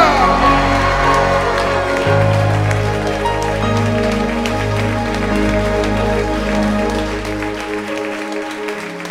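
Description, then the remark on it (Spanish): A church audience shouts hallelujah, cheers and claps loudly and continuously for several seconds in answer to the preacher, with steady organ-like chords sustained underneath the crowd noise. “Alguien grite, aleluya.”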